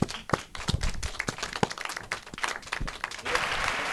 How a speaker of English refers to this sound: There you go. Did some fake applause there. We don't need it.